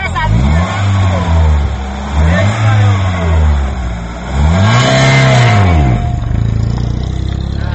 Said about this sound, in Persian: دیروز جوانی که صاحب ماشین سبکروی نوع لکسوس است گاه گاهی ماشین را از جای ایستاده یک بار با سرعت بلند به پیش میراند. در چنین حالت ماشین یک بار از جای جهیده صدای بلند میبرارد و به پیش پریده با سرعت بلند حرکت میکند.